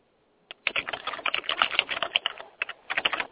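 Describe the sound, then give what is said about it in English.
Loud, rapid typing on a computer keyboard close to the microphone, a dense flurry of sharp clacking keystrokes with brief pauses, no voices. “man, you gotta quit typing so loud next to the microphone.”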